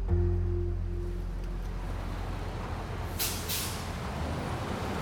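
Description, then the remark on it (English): A large school bus engine rumbles and hums steadily, then two quick hissing bursts of air brakes cut through as the bus comes to a stop, with no talking. “On November 21st, 1983, Linda hops off the bus and rushes home.”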